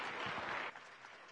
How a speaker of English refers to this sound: All right, way to go. All right, yeah, give them an applause. Way to go.